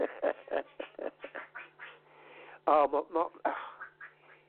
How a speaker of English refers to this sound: She thinks she's a duck sometimes. She's making all quacking noises, and I'm sorry about this,